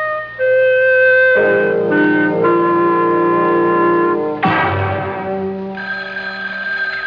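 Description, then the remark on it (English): A telephone rings loudly and continuously for several seconds, its bright, metallic tones shifting in pitch along the way, with no voices present. “Stay near that phone. I'll call you back.”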